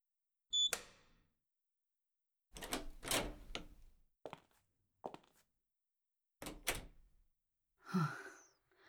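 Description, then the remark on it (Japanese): A sharp metallic ring, then a run of loud crunching and splintering impacts as a room door locked with an electronic lock is cut in two, ending in a heavy thud as the pieces fall. No one speaks. “ドアごと真っ二つにします。”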